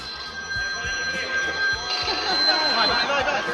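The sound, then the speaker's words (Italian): Steady electronic mobile phone ringtones chime continuously over a noisy assembly hall during a session with a minister present, with a murmuring crowd and voices talking underneath, the ringing holding at a moderate level throughout. “Concluda, per favore, colleghi, togliete questi telefonini, per favore, grazie.”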